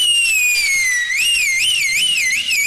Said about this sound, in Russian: Змей как свистнул, деревья-то все как закачались, а все листья с них прямо осыпались.